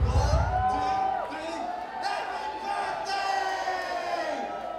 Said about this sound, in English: For the count of three, if you could, scream with me a happy birthday.